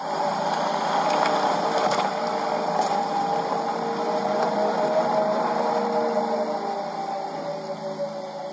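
A car's artificial driving sound: a steady synthetic hum with layered sustained tones over a noisy wash, holding constant for several seconds before easing slightly at the end.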